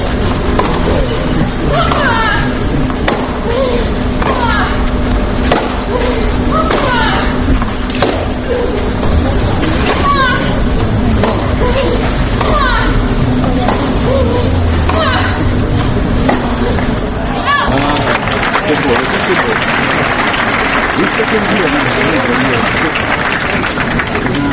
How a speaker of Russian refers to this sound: Композиция Юрия Векслера «Крики на корте». его собеседницы Елена Дементьева и Динара Сафина. Помимо них в композиции звучат голоса Моники Селиш, Елены Докич, Марии Шараповой и сестер Уильямс.